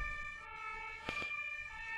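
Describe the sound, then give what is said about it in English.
An ambulance siren wails steadily outside, near a hospital, its sustained tone fairly faint, with a brief soft knock partway through and no talking. “I don't know if you can hear, but there's an ambulance out there.”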